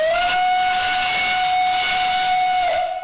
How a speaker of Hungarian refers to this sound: Ment a gőzös és a többi nosztalgia vonat is. Hűvösvölgy és a Széchenyi-hegy között megtelt minden kocsi.